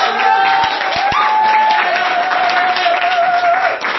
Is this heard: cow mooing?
no